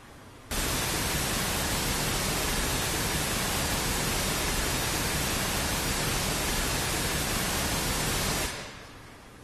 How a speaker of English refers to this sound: Couple of things. One, the whole spectrum just sounds fine, right? And that was the waterfall sound.